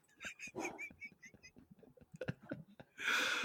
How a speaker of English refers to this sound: Yeah. It was like you tried to do a goat sound, but just failed and just leaned into it. Definitely a burp. I know it was a burp, but it was a very gassy burp.